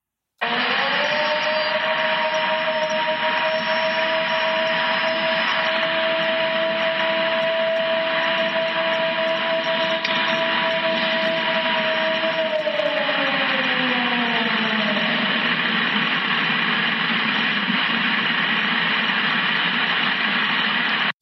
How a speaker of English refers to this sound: Okay, that was the first one, and then you sent me the second one, which was the clip of just one howl that was going on for, what, 15, 20 seconds.